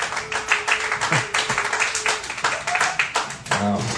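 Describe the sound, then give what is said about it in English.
A large crowd claps and applauds steadily, a dense wash of hand claps filling the whole moment, with a few voices calling out underneath. “Big crowd tonight.”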